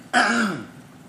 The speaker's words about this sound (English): Excuse me, I have a slow-burning virus that means I'm going to cough a little bit, and I'll do my best to try and keep it under control.